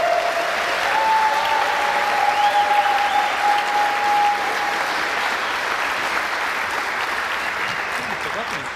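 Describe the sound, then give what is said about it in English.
An audience claps steadily for about nine seconds, a dense, even wash of applause, with a thin steady whistle-like tone sounding through the first half, as the final team, called the Heaven, comes up to the stage. “So please, a huge round of applause for the Heaven.”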